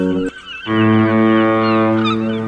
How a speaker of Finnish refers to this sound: Todellakin, ja siis sumutorvi, se tekee aina silleen hyvän säväyksen. Huomaa, että me ollaan Helsingissä.